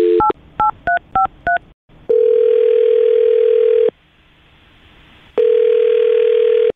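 A quick series of touch-tone beeps dials a number for an on-air call on the Brook and Jubal in the Morning radio show, followed by two long, steady telephone ring tones separated by a pause of silence. Clear, with no voices.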